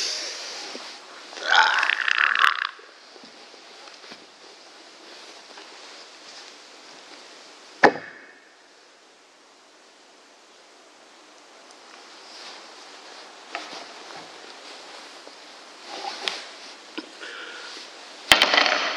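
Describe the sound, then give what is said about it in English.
Irregular creaking, with a loud, drawn-out squeaky groan early on, then a sharp snap and fainter creaks later over a steady hiss. No one speaks. “Bit of creaking here.”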